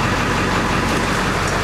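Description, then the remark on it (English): An American diesel engine idles steadily, a loud, low rumbling drone with a constant, unbroken level throughout and no voices. “Some good American diesel.”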